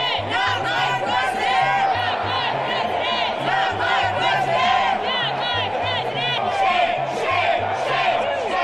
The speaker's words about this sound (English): These were the shouts of protesters which greeted Donald Trump as he came home to Trump Tower for the first time since his inauguration.